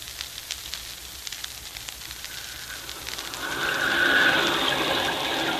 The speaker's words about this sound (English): Look at that rain, Crawley. It's just what you ordered, sir. And down there in the valley, the lights glow cheerfully through the rain.